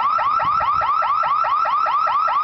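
signal or alarm, burglar alarm ringing

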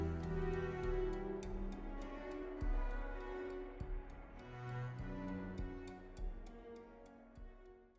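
household object, clock ticking

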